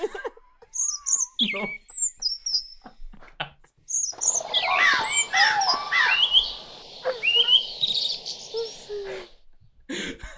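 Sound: birdsong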